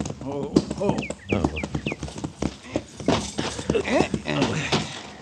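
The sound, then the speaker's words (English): Horse hooves clip-clop in a steady, uneven rhythm down by a corral, with people talking over them and a few bird chirps in the background. “Down by the corral there, isn't it? Oh, yeah, yeah. And he's got a new horse.”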